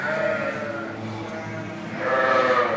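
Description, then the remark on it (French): Several ewes bleat loudly, their wavering calls overlapping in a steady chorus that swells again near the end, with the murmur of a flock behind them. The ewes are a group on a 700-ewe farm and will lamb in spring for summer milking. “On a 700 brebis. Ce lot-là, c'est un lot qui va faire l'agneau au printemps pour la traite de l'été.”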